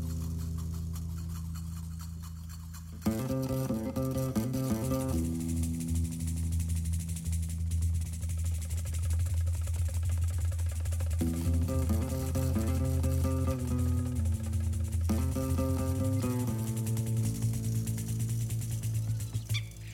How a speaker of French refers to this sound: Ce sont des étourneaux, des chants d'étourneaux.